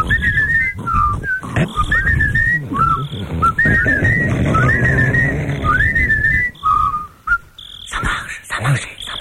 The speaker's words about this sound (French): On a qu'à siffler ma chanson. Bon, on se met tous ensemble à trois, alors. Un, deux, trois.